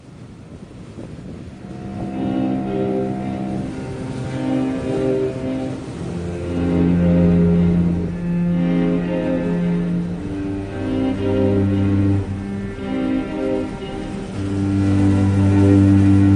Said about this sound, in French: Un mixage des vagues de l'océan Atlantique avec la version …